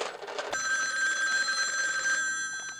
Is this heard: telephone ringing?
yes